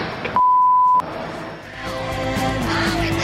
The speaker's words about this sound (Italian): Vabbè, il pezzetto è questo, col bip sulla bestemmia, ovviamente.